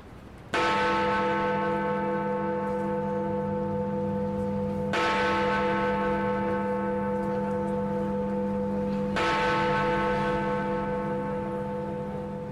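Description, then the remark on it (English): Big Ben's clock bell strikes three times for three o'clock, slow and evenly spaced, each deep resonant bong ringing on with a long humming sustain into the next. No voices. “Story time. At Big Ben.”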